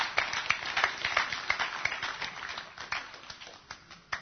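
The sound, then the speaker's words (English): An audience applauds, a dense patter of many hands clapping at once, holding steady for a few seconds and then thinning toward the end with a final sharp clap. “Give Nigel a round of applause.”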